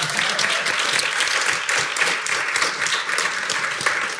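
A crowd applauds steadily, dense overlapping claps forming a loud, even wash of sound that holds without pause for several seconds.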